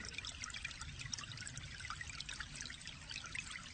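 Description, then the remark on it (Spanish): Lukewarm water welling up in a room trickles and bubbles in a steady, continuous stream, soft and fairly quiet, with a fine, sparkling splash texture and no voices. “Imagínate que en la habitación empieza a brotar agua templada.”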